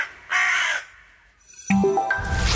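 A single harsh, raspy carrion crow caw rings out loud, followed after a pause by a series of stepped, tonal electronic-sounding notes with a noisy hiss.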